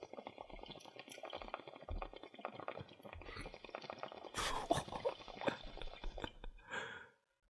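Bong water bubbles and gurgles steadily for about seven seconds as someone smokes a bong, a dense crackling rumble, with a brief breathy rush toward the end before it stops. No one speaks.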